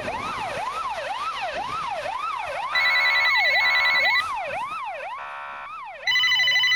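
Emergency sirens wail loudly and steadily in rapid rising-and-falling sweeps. Bursts of a shrill ringing telephone break in over them several times. No voices are heard.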